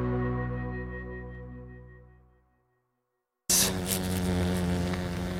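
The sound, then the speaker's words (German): A large fly buzzes with a low, droning hum that gradually fades to silence, then after a brief pause the loud, raspy buzzing starts up again abruptly and continues. “Das ist ein grosser Brummer. Ein Insekt.”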